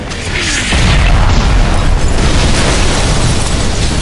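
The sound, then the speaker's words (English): A heavy explosion booms out and rolls into a dense, sustained rumble of debris and blast noise, loud throughout with deep low-end weight, as mortar explosions walk north up an island's spine. “The mortar explosion started walking north, taking giant steps up the island's spine, toward the Vill.”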